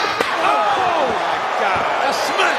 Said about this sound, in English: A steel chair across the Hulkster's cranium. The bloody batter, Hulk Hogan, has been knocked down, perhaps for the final time in this match, perhaps his career, by Shawn Michaels.